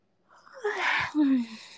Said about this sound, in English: Yawn. Let's yawning together.